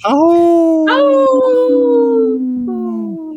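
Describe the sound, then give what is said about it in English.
A loud wolf howl, a long sustained wavering cry that slides slowly downward in pitch, with brief breaks where the call swells again before trailing off. No one speaks. “The third one would have been a howl, right?”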